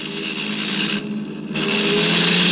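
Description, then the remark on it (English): The horn of a car driving behind blares in a long, steady, loud blast over the rumble of a running engine, dipping briefly in the middle before sounding again at full strength. “He's blowing his horn.”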